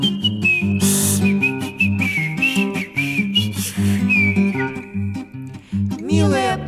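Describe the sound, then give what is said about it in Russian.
A thin, high whistling melody glides and wavers over a full, steady musical accompaniment: a rubber toy hedgehog whistling through a hole in its right side, carrying the tune for several seconds. “Дыркой в боку свистел.”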